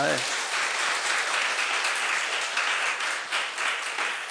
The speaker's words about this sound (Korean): 박수 한번 쳐.